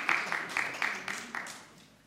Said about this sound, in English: Like, you've never been applauded before.